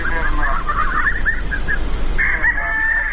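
chickens clucking

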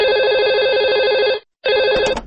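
telephone ringing

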